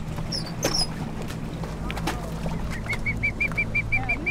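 A rescued bird, scooped up from a boat, gives a quick, even series of short, high peeping calls, preceded by a few scattered chirps, all over a steady low boat-engine rumble.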